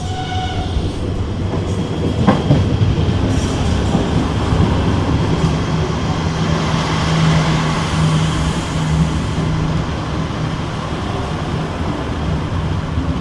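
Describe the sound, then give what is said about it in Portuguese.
A yellow diesel railcar leased from Spain rumbles steadily along the Oeste line from Sete Rios, its engine droning with a low hum and faint rhythmic clatter from the rails, heard from inside the train with no one talking. “E por isso é em Sete Rios que entramos numa das camelas, assim chamadas pelos aficionados por comboios, às automotoras amarelas alugadas à Espanha.”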